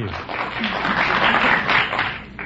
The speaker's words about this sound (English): Some people out there from Fonjilac were applauding.